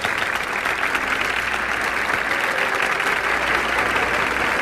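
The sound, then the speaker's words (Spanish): Sustained applause from an audience in a school auditorium, for artwork made by eleventh-grade students: a dense, steady wash of many hands clapping at once, loud and continuous for several seconds with no voices standing out. “Pero antes que iniciemos el acto de esta noche, quiero contarles que en las paredes del auditorio encontrarán los trabajos del área artística desarrollados por los estudiantes de undécimo grado, para los que pido un fuerte aplauso.”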